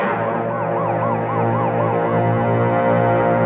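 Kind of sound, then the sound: vehicle, fire engine siren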